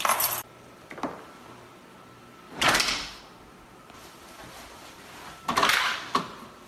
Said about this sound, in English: Okay, you can't hear it at the beginning, but you can hear it with the shutting that's one of those heavy metal doors.